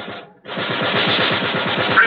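A ship's gun fires in a rapid automatic stream, loud sharp reports rattling roughly ten per second after a brief opening burst and a momentary pause, with no voices.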